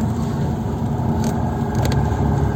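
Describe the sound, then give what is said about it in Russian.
People beat on car bodywork: several bangs and thumps, scattered and irregular, heard over a steady low rumble, like being inside a vehicle while it's struck from outside. “По машинам бьют. По кузову бьют.”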